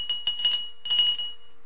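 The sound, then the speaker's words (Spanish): A handbell rings in two quick shaken bursts, each a rapid clatter around a bright, high, steady tone that lingers faintly after the second burst. No one speaks. “Entonces, esto podría ser: toco nuevamente mi campana.”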